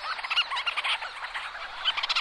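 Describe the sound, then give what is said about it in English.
A dense chorus of burrowing seabirds calling to mates, overlapping squealing, yapping cries pulsing steadily, with no one talking. “There are just so many of these birds that they can't help but flying into the microphone or the tripod, or even one time bird flew right into my head.”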